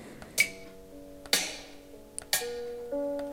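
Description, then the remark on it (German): In a rhythm app game where the player taps note values on a round disc (level 1 of 7), sharp percussive drum hits act as a metronome at an even pace about once a second, each with a bright crack, while sustained tonal notes ring between them. No one speaks. “Und dieses Schlagzeug ist dann wahrscheinlich als Metronom gedacht, als Hilfe.”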